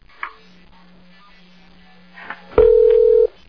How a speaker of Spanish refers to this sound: Epa. Me colgaron un teléfono por ahí.